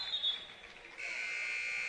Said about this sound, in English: And that whistle will get Oxley onto the floor for the Panthers.